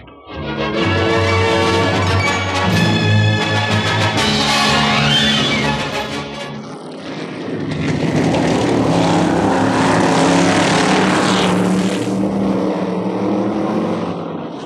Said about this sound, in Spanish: Una hora más tarde, en el autódromo de Alhambra, los dos formidables autos de carrera han dado varias vueltas a la pista para que Calimán la reconozca y para calentar los soberbios motores.